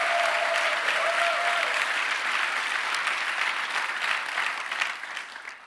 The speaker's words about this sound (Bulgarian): О, ако ръкопляскаш, ръкопляскай, като че наистина вярваш.